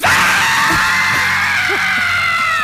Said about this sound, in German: Ich will jetzt kein Geschrei hören.